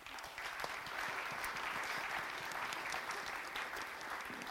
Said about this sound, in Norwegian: En applaus til!